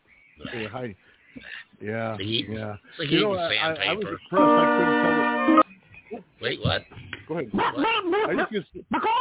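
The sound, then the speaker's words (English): A voice imitates a dog: bursts of barks, yips and whines come in uneven clusters, broken midway by a loud, steady buzzing tone lasting about a second. “I was impressed I couldn't tell the difference between the real dog noises and that of ….”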